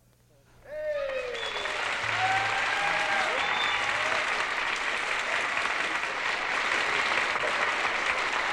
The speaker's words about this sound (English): And thanks for that applause.